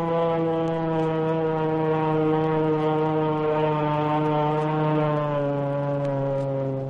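An airplane, the McGrew, in a dive. Its engine gives a loud, steady, buzzing drone with a rich harmonic whine that holds a nearly constant pitch for about seven seconds, with no voices.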